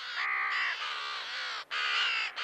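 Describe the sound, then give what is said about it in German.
Harsh, raspy crow caws in a near-continuous run of three or four drawn-out croaks, loud with brief gaps between them, no voices present. “Das ist eher ein Krächzen oder ein Schnarren und es ist sehr weit zu hören.”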